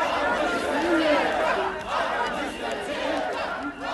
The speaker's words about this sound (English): someone catches and uploads a crowd of protesters dancing around, singing one of the … songs